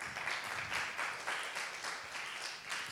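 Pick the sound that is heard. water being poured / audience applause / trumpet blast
audience applause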